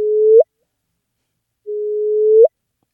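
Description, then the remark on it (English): Two slowed-down gravitational wave chirps from two colliding black holes, recorded by a gravitational-wave detector and played through speakers, each a steady low hum that swells in loudness and ends in a quick upward whoop, separated by a pause. “So that is the sound of two black holes colliding.”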